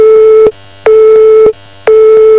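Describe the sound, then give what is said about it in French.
A telephone busy signal: steady mid-pitched tone bursts switching on and off in a regular rhythm, three loud beeps separated by short silences, with no voices. “Tiens, c'est drôle, c'est exactement le bruit que vous feriez si vous aviez raccroché.”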